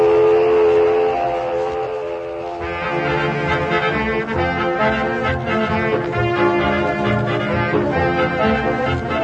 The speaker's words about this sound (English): And there goes the mill whistle.